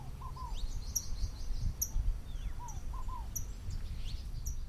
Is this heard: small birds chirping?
yes